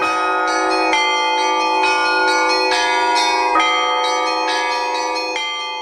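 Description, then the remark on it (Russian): Church bells ring in a steady, overlapping peal, several bells struck in quick succession with rich, sustained tones. Loud, with no voices. “Программа о колоколах, звонарях и не только.”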